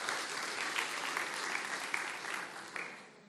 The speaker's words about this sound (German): Herzliche Glückwünsche von hier aus. Wir werden sie dann weitergeben von der Gemeinde. Genau, gerne mal klatschen.